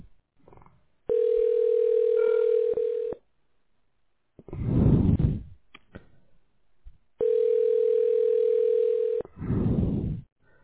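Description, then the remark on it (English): A phone ringback tone purrs twice as a call connects, each steady ring lasting about two seconds with a pause between, while bursts of noisy rustling fill the gaps between rings. “Okay, it's a ringing sound. It takes maximum 5 to 10 seconds.”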